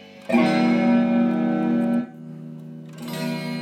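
An electric guitar played through a multi-effects processor on a preset meant to imitate an acoustic guitar: a bright sustained chord rings for about two seconds, cuts off, then a softer strummed chord returns near the end, without talk.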